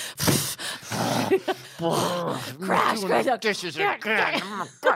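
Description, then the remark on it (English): A voice acts out angry, heavy breathing: a loud breathy huff at the start, then a run of strained, groaning voiced exhales and grunts, forceful, with no clear words. “You can't, like, have this reasonable conversation when you're already, like, slamming things around and breathing heavily.”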